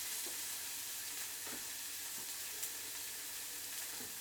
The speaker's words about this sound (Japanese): で、そのまま鍋にキムチ。さっと炒め。